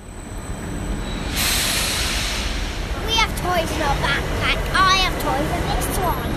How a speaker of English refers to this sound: an electric blue train screeches to a halt in front of them in Vienna's main train station. The family is waiting to board a night train to Düsseldorf, Germany.